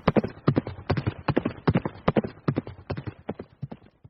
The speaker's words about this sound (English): We flash back to Hendricks, riding on his horse through Indiana's back roads to get to his hometown.